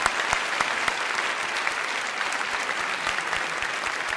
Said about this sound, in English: Now, I need some spontaneous applause from you if you could do that. Thank you.